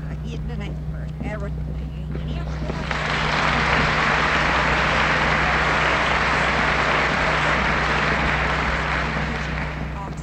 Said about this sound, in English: We usually do not applaud during a meeting like this, but I felt like applauding too, so I believe it's justified that one time.